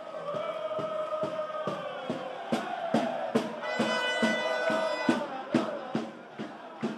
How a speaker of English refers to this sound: Wales and Belgium supporters in full voice. Just listen to this.